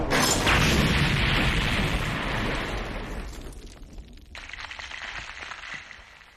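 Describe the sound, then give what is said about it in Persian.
A loud cannon blast and explosion erupts at once as a navy fleet fires a cannonball, which is smashed; the heavy rumbling roar fades over several seconds before a second, hissing burst of debris kicks up near the end. “وای، اون گلوله توپو خورد کرد.”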